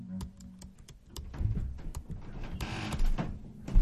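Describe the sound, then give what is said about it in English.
Irregular bursts of sharp clicks, like fingers tapping keys on a keyboard, over a low mechanical hum that swells and fades. No one speaks. “You start typing.”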